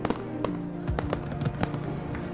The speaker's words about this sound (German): Kinder laufen aufgeregt umher und werfen kleine Feuerwerkskörper in die Ecken und Winkel der zusammenstehenden Häuser.